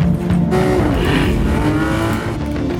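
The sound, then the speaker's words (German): A car engine roars loud, a rising whine sweeping past with a brief tire squeal as the vehicle overtakes at speed, no voices present. “Du siehst ein Auto im Rückspiegel, jetzt überholst dich.”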